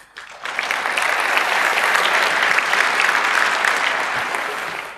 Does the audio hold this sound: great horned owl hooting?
no